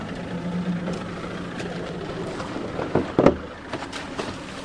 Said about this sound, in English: As the boat picks up speed, it slams against the water over and over.